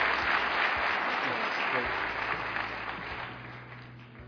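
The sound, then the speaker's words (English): An audience at an award ceremony applauds the IHS Award recipients steadily, a dense wash of many hands clapping together that holds for several seconds and gradually eases off toward the end. “Okay, so let's have a round of applause for all of the IHS Award recipients.”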